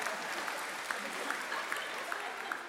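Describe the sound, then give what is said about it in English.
An audience applauds steadily after a choir sings, dense clapping with a few sharper individual claps standing out, at moderate loudness with no voices. “So we clap.”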